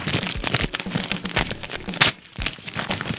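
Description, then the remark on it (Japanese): Continuous crinkling and crackling of a stiff, sturdy paper flyer being pulled and twisted, with repeated sharp rustling bursts as someone struggles and fails to tear it. “また丈夫な紙使ったもんだから破れやしねえ。”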